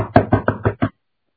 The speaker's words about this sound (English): And he's got to walk up to that door and he's got to knock on that door.